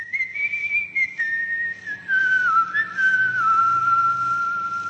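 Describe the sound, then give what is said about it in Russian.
A clear whistled melody, a single sustained tune that slowly drifts downward in pitch, heard alone with no talking. It is the call sign of an underground French radio station that operated during the Nazi occupation. “Этот свист не просто свист. Это позывные подпольной французской радиостанции «Радио Родина»”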